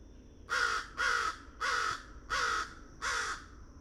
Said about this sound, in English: Okay, we got three different good old American crows.